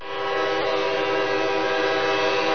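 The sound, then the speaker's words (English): A train horn blares loud in one long, steady chord at a railroad crossing, the rumble of the approaching train underneath, with no voices. “You know, you can be issued a hefty ticket for being caught on a railroad crossing when a train's approaching.”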